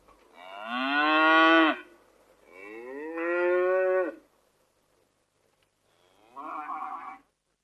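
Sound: cattle mooing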